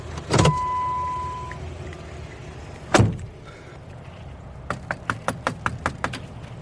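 A couple of heavy door thuds, then a quick run of about eight sharp raps on a screen door, close by and fairly loud, with a low rumble underneath and no voices.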